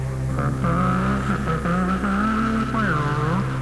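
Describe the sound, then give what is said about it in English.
A voice imitates a roaring monster truck engine, a loud, continuous growl that revs up and down in pitch for several seconds without a break. “In your mind's eye, you're a big, big monster truck with a big, loud, roaring engine. Now vocalize that roar.”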